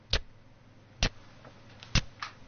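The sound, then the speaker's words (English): Sharp, regular ticks like a clock, about one loud tick per second with fainter ticks in between, against a quiet, low background hum with no one speaking; the ticking comes from a water drip after rain, heard in a lounge. “Why am I hearing a ticking noise?”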